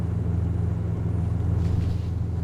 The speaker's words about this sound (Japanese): あのね、マスター、モーターボート揺れるし、とっても風が強いしで、大迫力でとっても楽しいものですのね。